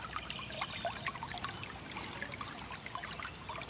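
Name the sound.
small brook babbling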